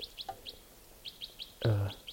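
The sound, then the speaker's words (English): Birds in the tops of larch trees chirp in a steady series of short, high-pitched tweets, often in quick pairs, with one louder, lower and harsher call breaking in near the end. “Yeah, I think I see one or two up in the top of the larches here.”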